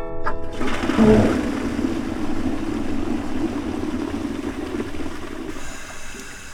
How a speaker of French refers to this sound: On lui met la tête dans les toilettes. Et on tire la chasse d'eau.